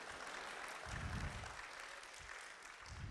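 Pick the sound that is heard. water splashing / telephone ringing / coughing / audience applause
audience applause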